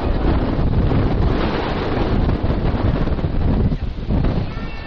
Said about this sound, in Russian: Очень-очень хорошо дует. Замечательно дует. Правильное место. Ничто не мешает нашим отношениям с ветром.